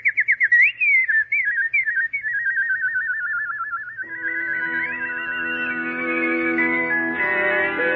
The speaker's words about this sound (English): Sing, little nightingale. Sing a song of love and thanksgiving, for the Emperor has at last found the kingdom of happiness.